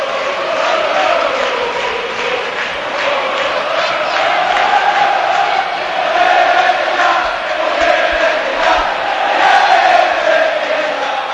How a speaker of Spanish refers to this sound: 0-1 ganando el español y gritos contra el entrenador del Betis.